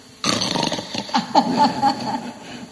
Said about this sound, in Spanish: Dice, ese sos vos roncando.